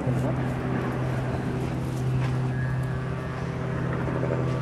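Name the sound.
helicopter flying overhead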